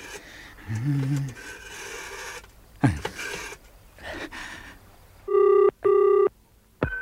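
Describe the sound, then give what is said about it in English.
A telephone handset is dialed with a date of birth as the number, making several rasping, whirring clicks. Then two loud bursts of steady, buzzing ringing tone follow in a double-ring rhythm, with no one talking. “I'll dial my date of birth, see who I get.”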